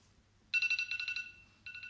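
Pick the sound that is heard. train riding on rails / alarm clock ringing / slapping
alarm clock ringing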